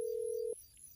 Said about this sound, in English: Doop, doop, doop, doop, doop, doop. Ringing. He'll pick up, I promise.